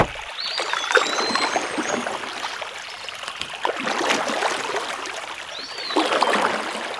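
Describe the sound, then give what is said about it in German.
Water splashing and sloshing in repeated strokes as a single oar pulls a small boat across a water basin toward the other shore, with swells of louder splashing around two seconds, four seconds and six seconds, and no voices. “Sie sprang in das Boot, nahm das Ruder und versuchte ans andere Ufer zu kommen.”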